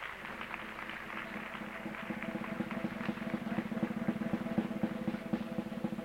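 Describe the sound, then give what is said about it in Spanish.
An audience breaks into applause, many hands clapping in a dense, steady patter that swells louder partway through and holds, with no voices over it. “Dense un aplauso, lo aprendieron.”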